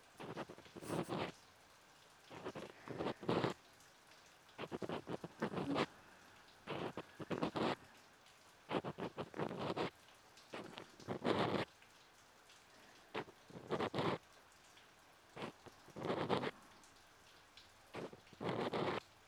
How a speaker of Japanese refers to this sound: 雨の音、ちょうどいい BGM ですね。雨音って落ち着きませんか？無数に降り注ぐ優しい水。